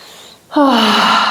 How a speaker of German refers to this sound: Wow, krass, ich kann atmen. Yeah, ich kann atmen. Boah, jetzt muss ich tief atmen.